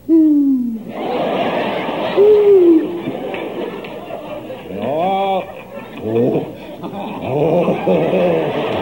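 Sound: great horned owl hooting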